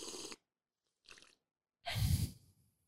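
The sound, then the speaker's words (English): Airy slurps of someone sipping a hot drink: a sharp noisy sip, a softer short one, then a longer slurp trailing into a breathy exhale. No talking. “All right, I'm ready for a sip.”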